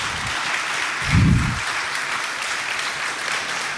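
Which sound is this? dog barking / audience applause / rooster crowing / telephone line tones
audience applause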